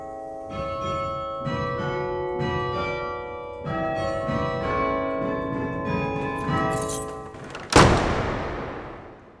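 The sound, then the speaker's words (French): Several bells of a belfry carillon ring in overlapping, rich metallic peals heard through an opened window, their tones sustaining and layering, before a sharp loud strike near the end rings out and slowly decays. “Quand on entend les cloches, en général, on ne les voit pas.”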